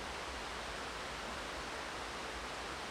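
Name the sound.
rain falling outside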